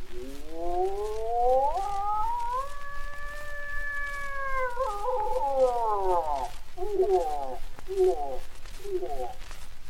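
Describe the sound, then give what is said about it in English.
A big six-pointer bull elk bugles on an elk range in October, the mating season: a long, rising whistle that holds high and then drops away, followed by a series of rhythmic grunting chuckles. The call is loud, and no one speaks. “But hush, there is the bugle note of a big six pointer.”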